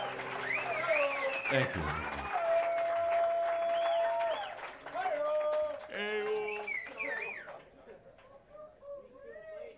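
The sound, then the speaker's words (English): A live audience claps and cheers during a song, recorded live and not taped or sweetened, in a dense, steady wash of noise, with many overlapping voices calling and singing over it before the sound thins out toward the end. “You heard the applause.”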